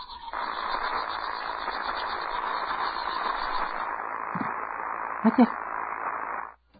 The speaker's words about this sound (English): Mom, something's wrong with my favorite show. It's just like static.